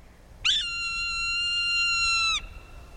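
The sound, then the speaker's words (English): A Swainson's hawk gives a single long, high scream that holds a steady, shrill whistled pitch for about two seconds before cutting off, heard alone over faint background noise. “species, like this Swainson's hawk.”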